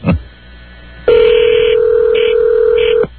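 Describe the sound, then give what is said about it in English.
A toll-free telephone number being dialed, a call that reaches In Style Magazine: a brief click, then a loud, steady electronic telephone tone lasting about two seconds, its upper pitches shifting a few times before it cuts off abruptly. No talking. “I'm sorry, I dialed the wrong number.”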